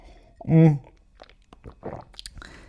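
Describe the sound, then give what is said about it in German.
A loud slurping sip of tea that has already cooled is followed by quiet mouth clicks and faint swallowing sounds, with no talking. “Vorher muss ich nochmal einen Schluck trinken.”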